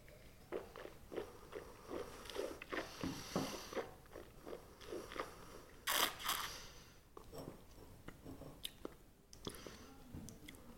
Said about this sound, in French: On mâche bien le vin. C'est important de le mâcher comme un aliment pour pouvoir en sortir toutes les saveurs. Ensuite, on va l'aérer un petit peu en laissant passer un petit filet.